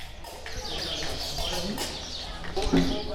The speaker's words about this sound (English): We're in an empty field surrounded by a couple of open hangars where dozens of birds are nesting. Although this location is just outside of bustling Marrakech, it feels like we're in the middle of nowhere.